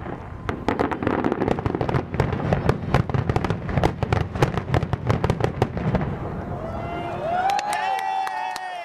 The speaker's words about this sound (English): And even now when we call home on Diwali, people can't even hear us because there's loud fireworks going on in the background.